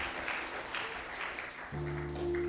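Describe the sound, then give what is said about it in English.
A church audience claps steadily, giving a hand clap to God for the Lord Jesus, a dense wash of many hands at moderate volume; partway through, a sustained low keyboard chord joins beneath the applause. “Let's give God a hand clap again for the Lord Jesus”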